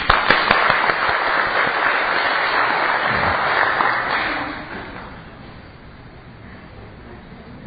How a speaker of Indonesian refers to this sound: Udah selesai? Wah, incredible. Very good. Nah, ini semua tepuk tangan buat saya.